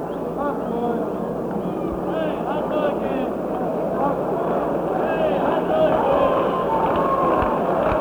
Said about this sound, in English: Starting a little rhythmic applause in support of the Mets here in the bottom half of the fifth inning.